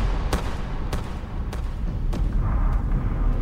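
sound effect, revolver gunshot

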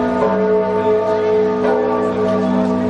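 sound effect, church bell ringing

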